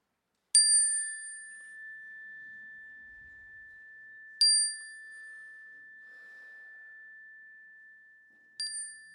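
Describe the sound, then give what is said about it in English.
A clear metal chime is struck three times in an audience's sanctuary during prayers, about four seconds apart, each bright strike leaving a long, steady ringing tone that fades slowly into otherwise quiet surroundings, with no talking. “So at the sound of the chime, I invite you to share what's on your heart into our sanctuary.”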